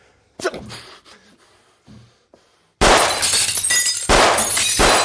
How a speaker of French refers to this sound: Il s'est mis à tirer sur les bouteilles qui se trouvaient derrière le patron.